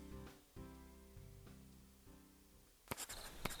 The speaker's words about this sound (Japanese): 何書いてんの。 手紙。